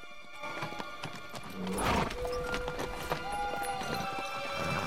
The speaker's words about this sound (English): They cross the dry moat and reach the bank, where they wait for a couple of guards to pass by on their horses.